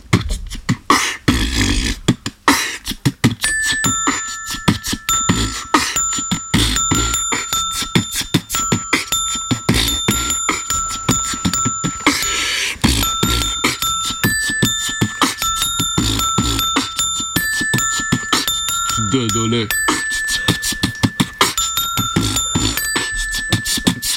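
A xylophone plays the tune 'Dodole' in an improvised jam session: a bright, ringing melody of quick, steady strikes with held bell-like notes, loud and continuous for the whole stretch with no voices.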